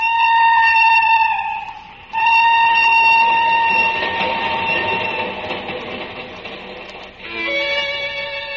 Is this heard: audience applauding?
no